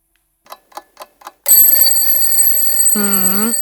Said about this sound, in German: Wecker rasseln und um 6 Uhr in der Früh, das kann richtig nerven.